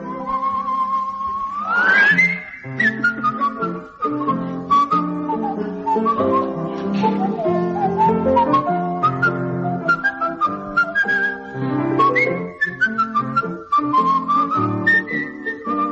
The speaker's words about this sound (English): Whistle all your cares away.